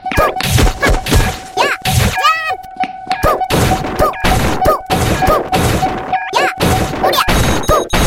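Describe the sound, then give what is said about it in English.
A box is smashed open with a rapid series of loud, sharp whacks and crashes, one after another in an uneven rhythm, while a steady high tone hums underneath. “Let's go beat up the box.”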